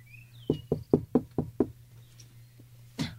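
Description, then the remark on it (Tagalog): Six quick, evenly spaced, solid knocks on a house door, then a short pause and one final knock. No one speaks, and a low steady hum runs underneath. “May kumakatok sa pinto.”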